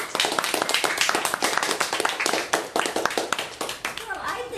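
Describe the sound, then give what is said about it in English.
A crowd applauds steadily, dense overlapping hand claps forming a continuous rattling wash that holds for several seconds, with faint voices mixed in as it tapers at the end. “Big round of applause.”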